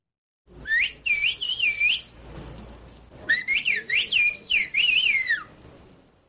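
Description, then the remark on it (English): Loud whistling in two bursts of rapidly rising and falling pitched notes, a whistled 'bird language' used to communicate in a mountainous area of Turkey, with a soft background hiss in between and no talking. “The UN's Educational, Scientific, and Cultural Organization, or UNESCO, has identified the bird language as an endangered cultural heritage.”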